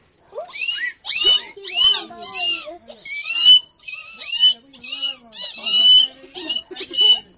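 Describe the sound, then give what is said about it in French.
Several children of the Temano people imitate a toucan call, with a steady run of short, high, yelping cries that overlap and repeat in quick bursts for several seconds. “Et le toucan ?”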